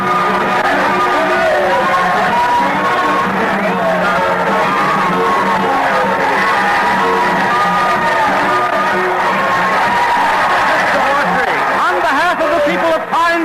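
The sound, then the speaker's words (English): A large crowd greeting a train's arrival in Pine City yells and cheers continuously, a dense roar of overlapping shouts and whoops that stays loud throughout, with excited voices rising above the general din. “The crowd started yelling.”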